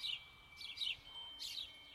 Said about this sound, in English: Most of the recording was just the sound of your backyard from your window. The sparrows on the wires.